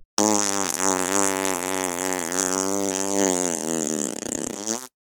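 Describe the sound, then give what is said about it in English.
A long, loud, buzzy fart with a steady low rasp that wavers slightly in pitch, sustained for several seconds before sputtering out. No one speaks. “Yep, farts.”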